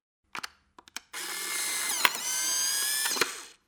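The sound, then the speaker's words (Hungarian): A few sharp clicks from an instant camera's shutter as a photo is taken, then a steady mechanical whirring of about two seconds as the motor pushes the photo out, ending with a final click. “Na, és akkor készítsünk egy fotót.”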